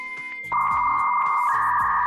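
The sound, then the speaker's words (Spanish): A dial-up modem connecting to the internet: steady electronic tones that jump into a loud, buzzing screech after half a second, with shifting pitches and warbling data noise, continuous. “¿Te acuerdas del antiguo módem para conectarte a internet, donde se podía mantener alguna conversación, aunque fuera lenta?”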